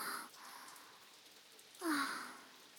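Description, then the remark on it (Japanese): Steady rain that has suddenly started hisses softly and continuously in the background, with a breathy human sigh rising over it near the end. “なんで急に雨降ってくるの？”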